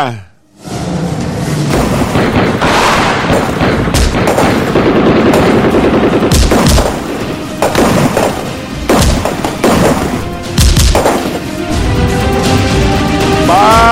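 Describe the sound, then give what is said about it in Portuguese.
Loud, repeated gunshots crack out in irregular bursts in the Saturnino de Brito area, some in quick succession, over a dense, chaotic background of noise and indistinct voices. “Bala no Saturnino de Brito, tiro!”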